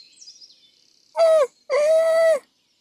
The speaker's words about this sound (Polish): Zaskomlał mały wilczek. Mamo, gdzie jesteś? Popiskiwał dalej.